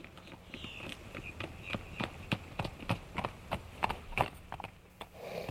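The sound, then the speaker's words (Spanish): Hooves of a saddled horse clip-clop at a steady walking pace in the late afternoon, a regular run of sharp knocks over a soft background hiss, fairly quiet and fading briefly near the end. “En la tarde hice ensillar un caballo y a los resplandores del poniente me encontré a la vista con el presbiterio.”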